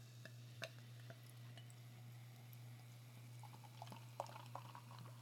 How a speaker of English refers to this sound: It's a big bottle, so I'm going to pour it into a glass right now. My Fresmo glass.